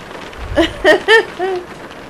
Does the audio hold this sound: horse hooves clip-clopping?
no